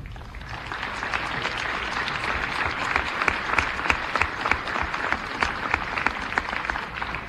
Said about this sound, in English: Thank you very much. Let's once again give a big round of applause to everyone here tonight and in our continued battle to kick cancer's